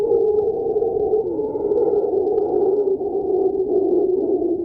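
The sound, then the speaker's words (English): Mantled howler monkeys roar in a deep, sustained, droning chorus that stays loud and steady throughout, with no speech. “This is the sound of the mantled howler monkey.”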